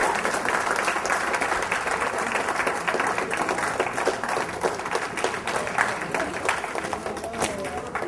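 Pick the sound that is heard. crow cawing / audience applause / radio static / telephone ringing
audience applause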